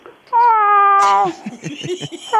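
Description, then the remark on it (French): In a studio, a person lets out one loud, drawn-out imitation of a cat's meow, steady, followed by softer, choppy vocal sounds before a second cry begins. “Bon, le chien, le chat. OK, le chat. Ah, le chat.”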